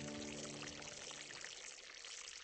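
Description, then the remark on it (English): Fry bread dough fries in a hot skillet on a stove over a fire, with a steady sizzle, bubbles popping and dense crackling throughout, and a faint low hum that fades partway through. No one speaks. “Drop the dough in the skillet. The bubbles sizzle and pop.”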